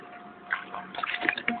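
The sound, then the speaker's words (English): A quiet swallow of water: soft, wet gulping and squishy clicks over about a second and a half, with no one talking. “Excuse me, I'm sorry, I just took a swallow of water.”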